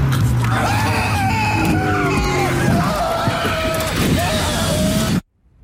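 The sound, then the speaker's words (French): A car skids with loud, wavering tire screeches over a roaring engine for about five seconds, mixed with yelling voices, before the sound cuts off abruptly into silence. “Bah, résultat, ma voiture est décédée.”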